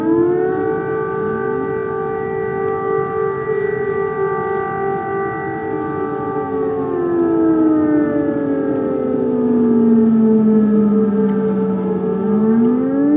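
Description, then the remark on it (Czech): A loud air raid siren in Ukraine, recorded in October, wails steadily, its layered tones holding a long sustained pitch before sliding down and rising again, with no voices over it. “Což a rovno svišišo jo povičovo alarm, ktorýž som nagral 8 a 24 oktobra Tenopilje, pitviaconej Ukrajine.”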